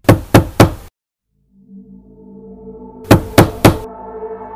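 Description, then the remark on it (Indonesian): Three sharp knocks on a room door, a pause filled by a low rising tonal drone, then another set of three knocks, loud. “Tiba-tiba, ada yang mengetuk pintuku lagi.”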